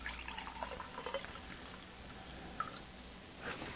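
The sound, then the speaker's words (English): Manischewitz Concord grape wine pours steadily into a glass, a soft continuous trickle with a few small splashes and a brief bright clink near the middle, fairly quiet. “Tonight, at my table, we happen to be drinking some Manischewitz Concord grape.”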